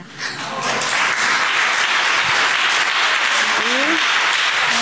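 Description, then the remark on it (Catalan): An audience breaks into loud, sustained applause, dense overlapping clapping that swells quickly and holds steady throughout, with a brief voice or whoop rising out of the crowd near the end. “us agradaria tot un fort aplaudiment per mi.”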